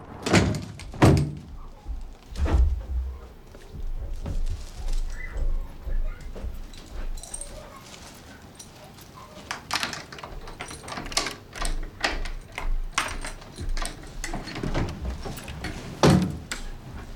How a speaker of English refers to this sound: Picking up two letters from the front doormat, she unlocks and opens the door to her flat.